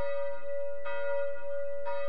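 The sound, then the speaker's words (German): A church bell tolls with a deep, sustained ring, struck twice about a second apart, each stroke blooming over the lingering hum of the previous one. No voices are present. “Und wo kommen die Glocken von heute her, die Wandernden heute her?”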